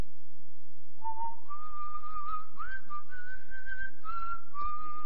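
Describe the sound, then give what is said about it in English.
A person whistles a simple melody, clear, the pitch stepping up and down over several seconds after a brief moment of quiet at the start. “I'd whistle all the way to my workstation, and I'd hear these guys going, would you please be quiet?”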